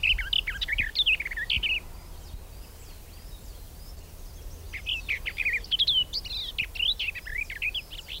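A garden warbler sings a rapid, chattering warble in two bursts, the first brief, then a longer run after a pause, over a low outdoor rumble with no voices.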